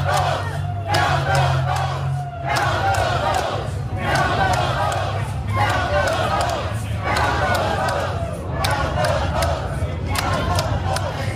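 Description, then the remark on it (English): A crowd of people in Arizona, right outside a place where the votes are being counted, chants in rhythmic unison to count the vote, loud and steady, with repeated shouted phrases rising and falling every second or so over a constant low rumble of background noise. “Admittedly, it's not a huge crowd, but Malaika, I just think it's funny that they are right outside a place where the votes are being counted, chanting to count the vote.”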